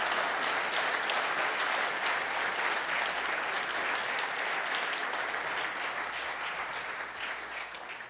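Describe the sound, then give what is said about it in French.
A large crowd at a church service applauds the Lord, a dense wash of many hands clapping at once that stays loud and even before tapering slightly at the end, with no talking over it. “Est-ce qu'on peut applaudir le Seigneur pour ce qu'il a fait dans la vie de ces gens ce matin?”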